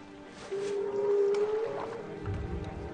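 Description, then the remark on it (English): A long, muffled whale call heard through the ice moans steadily and bends slightly upward over about a second, followed by softer fragments and a low, rumbling underwater wash. No one speaks. “telling him to put his ear up to the ice and listen to these whales”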